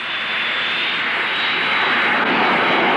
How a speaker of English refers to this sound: Does the plane always come down this fast? It depends on the pilot. This one seems to be quite a cowboy.